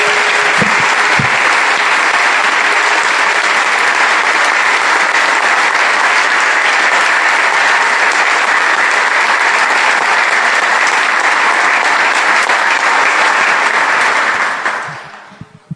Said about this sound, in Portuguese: Vamos aplaudir a Jesus que nele está.